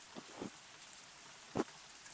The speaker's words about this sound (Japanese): 雨の音って私結構好きなんです。